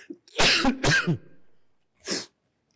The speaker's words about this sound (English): I'm going to have a coughing spell here, if you can cut my mic.